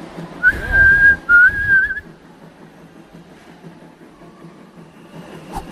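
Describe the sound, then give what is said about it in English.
A train whistle blows in two close, loud bursts with a slightly wavering pitch, sounding an F sharp minor chord in second inversion, then gives way to a quiet, steady rumble in the background. “Must be a whistle coming soon, it's getting faster and faster.”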